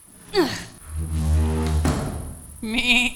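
A goat named Bordeaux bleats several times: a quick falling cry, then a long low wavering bleat, and finally a higher, shakier call, with no speech.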